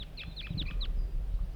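bird, wild birds calling

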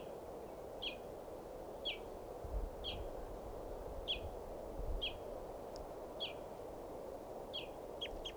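bird, wild male bird calling

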